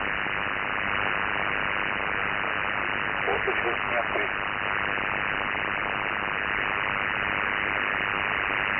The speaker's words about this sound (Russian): К сожалению, не принимаю. Слышал через шум эфира, а разобрать не могу.